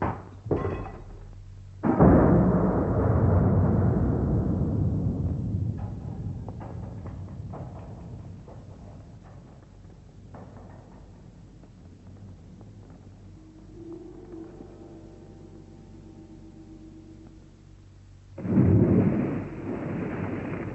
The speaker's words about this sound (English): Unused to the sound of houses falling off London Bridge, the horse panicked and bolted.